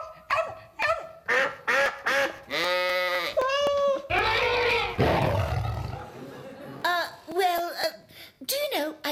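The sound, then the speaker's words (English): A parrot squawks loudly in a rapid series of harsh, bleating calls, with a longer raspy, screeching stretch in the middle before the short squawks resume. “Quite a parrot, though, isn't he?”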